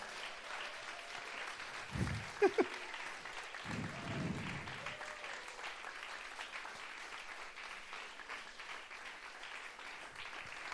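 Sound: audience applause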